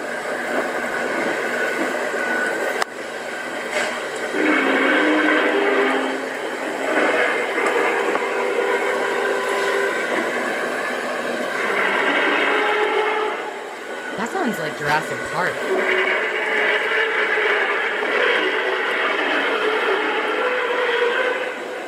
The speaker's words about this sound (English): Coming from the sky. Skyquake. Literally sounds like robotic dragons flying in the sky.